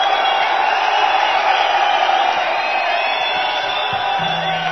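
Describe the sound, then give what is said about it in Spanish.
A large audience in Bilbao shouts and cheers continuously, a dense wall of voices with whoops rising out of it, loud and sustained throughout. “¡Apa, no gritos! ¿Qué pasa?”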